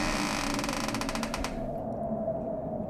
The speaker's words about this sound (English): And in this spooky atmosphere, we pan to an old cemetery. A crypt door opens.